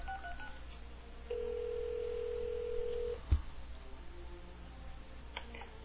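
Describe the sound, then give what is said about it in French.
A single steady telephone ringing tone from a call being retried one last time sounds for about two seconds over faint line hiss, then cuts off with a sharp click as if the call drops. No one speaks. “On va réessayer encore, une dernière fois, avec Renaud.”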